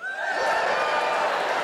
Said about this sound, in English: But in a relationship in the moment, give us a cheer, all the couples in.